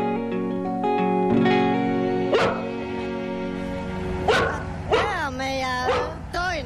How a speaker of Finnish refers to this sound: Lattinkoira Kosti. No niin. Se aina haukkuu, kun Hepa käynnistää autoa. Eikä ihan mitä tahansa autoa käynnistelekään siinä, vaan aivan uskomattoman upeasti säilynyttä DAF Variomatic 750 kaunatonta.